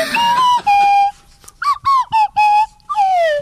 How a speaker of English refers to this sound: All his Swanee whistles sound the same. Any song.